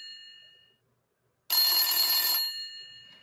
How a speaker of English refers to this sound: I think you gotta answer the phone. He's on the phone? Yeah, you gotta answer the phone.